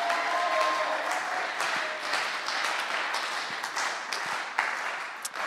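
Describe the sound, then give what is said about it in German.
An audience applauds for the Bible passage Acts 2:42–47, a dense wash of many hands clapping at a fairly even level throughout, with a few sharper individual claps standing out and no talking. “Ja, und dann nochmal einen richtigen Applaus für Apostelgeschichte 2, 42 bis 47.”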